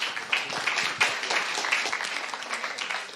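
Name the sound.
audience applause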